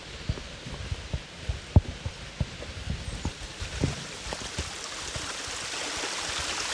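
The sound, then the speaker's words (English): A small creek flowing through Dolly's childhood home, a soft steady wash of water with irregular low plops and gurgles, the rushing growing a little fuller toward the end. No voices. “This is a little creek that runs right through Dolly's childhood home.”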